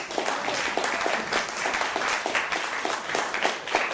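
A crowd applauds steadily, many hands clapping at once in a dense, sustained patter that stays fairly even in loudness throughout, with no voices heard.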